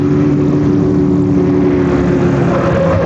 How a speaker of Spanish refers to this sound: conduce el auto a toda velocidad, rumbo hacia el elegante barrio donde va a cumplir la cita.